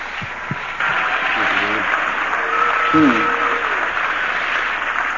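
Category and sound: crowd, audience applause and cheering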